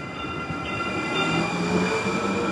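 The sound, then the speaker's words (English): A light rail train in Phoenix rumbles steadily, its wheels giving off a faint metallic squeal and high tonal whine over a continuous low roar, with no voices. “Last December, Phoenix opened its first light rail system.”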